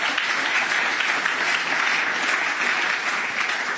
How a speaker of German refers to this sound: Dankeschön, ja, ihr könnt klatschen.